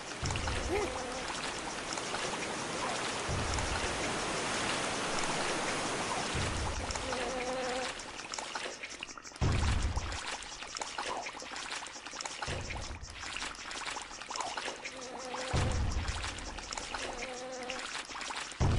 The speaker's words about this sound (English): Stupid flies buzzing everywhere.